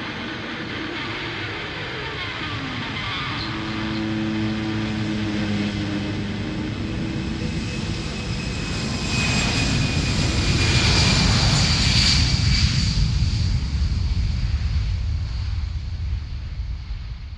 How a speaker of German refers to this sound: Sie haben sich jetzt erschreckt, nicht wahr? Das ist doch nur der 17-Uhr-Flieger.